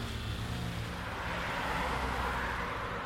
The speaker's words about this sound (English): They climbed into an unmarked car, Clark sat in the passenger seat, and the other detective drove, and before long they were peeling out of the parking lot and heading onto the street.